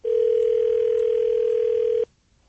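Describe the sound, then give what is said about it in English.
A steady, loud telephone dial tone holds one unbroken pitch for about two seconds as someone places a phone call, then cuts off abruptly into near silence. “Let's call House right now. Maybe he'll answer.”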